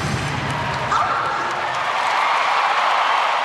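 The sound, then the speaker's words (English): A large arena crowd applauds Simone Biles's gymnastics floor exercise routine, with competitors from Brazil and Germany standing and clapping, in a dense, continuous wash of clapping and cheering that holds steady for several seconds, with a faint murmur of voices blended into the roar. “As Biles performed, her competitors from Brazil and Germany actually stood up and clapped.”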